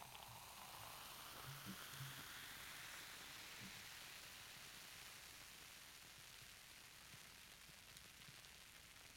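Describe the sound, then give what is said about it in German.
A soft, steady fizz of freshly poured beer bubbling in a glass, a continuous crackling hiss that lasts throughout, with no voices. “Das perlt.”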